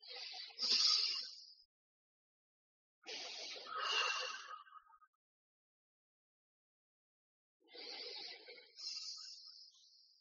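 Three slow, deep breaths taken together by a group, each a long airy inhale flowing into a hissing exhale, separated by short silences. Fairly soft, with no talking.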